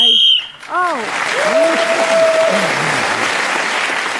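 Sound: whistle ending the round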